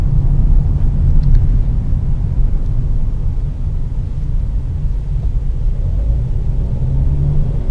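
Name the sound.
car interior driving rumble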